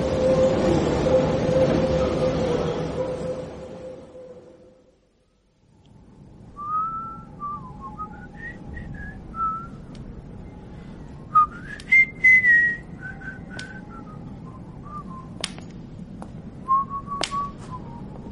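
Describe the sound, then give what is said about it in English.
A train rumbles loudly with a steady droning tone, then fades out. High, wavering whistle-like tones follow, sliding up and down in pitch over a low rumble, punctuated by a few sharp clicks. “We've just missed one, chum.”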